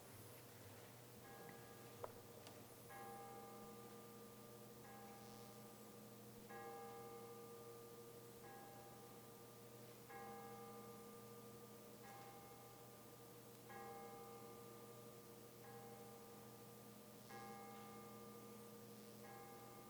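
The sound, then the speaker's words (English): A church bell tolls 21 times as the Bells of Peace at a slow, steady pace, each ringing strike overlapping the hum of the one before, with no voices. “It's known as the Bells of Peace, and I invite all of us to pray for peace as the bells are rung 21 times.”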